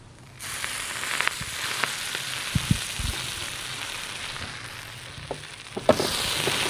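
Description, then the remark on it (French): Croque-monsieur sandwiches sizzle in a pan: a steady, bright frying hiss with scattered small pops and crackles and a few louder clicks, and no one speaking. “Alors, maintenant, nous avons donc fait cuire donc les croque-monsieur.”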